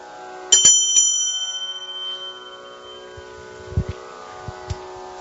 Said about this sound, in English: When you hear the second time the bell, it means please continue.